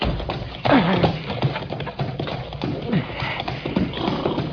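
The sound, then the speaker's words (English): A horse's hooves pound steadily in a fast, rhythmic run, fairly loud, with scattered snorts and a busy, rumbling background throughout. “Don't you listen, horse. You run. You run.”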